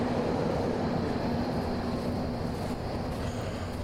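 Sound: subway train passing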